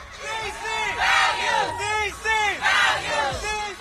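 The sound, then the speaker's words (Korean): A large crowd at a gay pride parade in a major US city chants slogans in unison demanding respect for their gender identity, voices rising and falling in repeated rhythmic bursts about every half second, loud and steady over a background of general crowd noise. “남장을 한 여성이나 여장을 한 남성 등이 행렬하고 자신들의 성 정체성을 존중해 주기를 요구하는 구호를 외치기도 하죠.”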